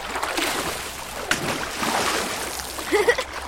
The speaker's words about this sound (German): Ich bin ja ganz nass geworden. Der planscht aber ganz schön doll im Wasser.